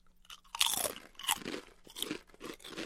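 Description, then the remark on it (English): Loud, crisp crunching of expired olive oil flavored potato chips being bitten and chewed, several sharp bursts in an uneven rhythm over about three seconds, with no talking. “Let's try olive oil first because it's the most expired. Cheers. Chip cheers.”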